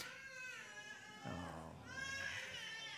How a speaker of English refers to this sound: Oh, that's what we have a nursery for, praise God. Isn't that wonderful? Cry of a newborn baby. She's not just newborn, but she's, that's like, praise God.